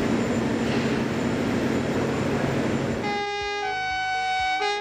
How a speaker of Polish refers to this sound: Modernizacja odcinków Chybie-Nędza-Turze oraz Toszek Północ-Stare Koźle to część Krajowego Programu Kolejowego. Posłuchaj, co dzieje się na budowie.